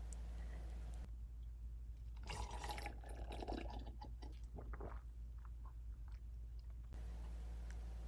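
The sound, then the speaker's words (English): Wine pours into a glass for about six seconds, a steady gurgling and splashing stream that rises in pitch as it fills, with no voices present. “Want some wine? I'm definitely having some. Hey, I'll pour you a glass, but no funny business, okay?”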